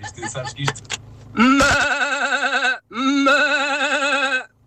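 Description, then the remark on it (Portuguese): A radio caller from Odivelas imitates a sheep, giving two long, wavering bleats, each about a second and a half, loud, with a short pause between them after some brief clattering noise. “Agora é a vez de soltar a ovelha que há em si.”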